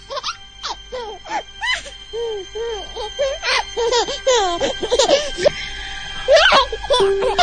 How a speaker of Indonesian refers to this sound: Hingga terdengar suara bayi kecil cekikikan.